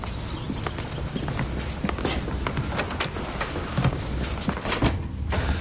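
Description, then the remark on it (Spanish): A door opens and two people walk in, their footsteps knocking steadily on a hard floor for several seconds, with no talking. “Abre la puerta. Marta y Cristian pasan.”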